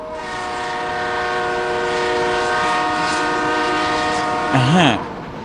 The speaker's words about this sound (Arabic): هذا صوت القطار، إنه قريب جدا، سوف يتوقف هنا. علينا أن نكون جاهزين.